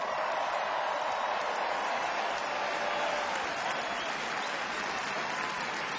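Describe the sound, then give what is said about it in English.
Sustained applause from a large audience at a singer's concert as the band members are introduced, a dense, steady wash of clapping with faint crowd noise and no clear pauses. “So I'm going to introduce them one by one, and you're going to give them a big round of applause.”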